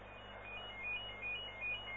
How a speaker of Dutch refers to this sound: Er gaat wel een telefoon, maar ik dacht dat ik ze wel wat zou pakken. Het is even herrie hier. Excuses.